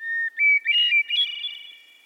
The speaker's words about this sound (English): Many people would tell you that hearing bird song, like the one from this hermit thrush, puts them in a good mood.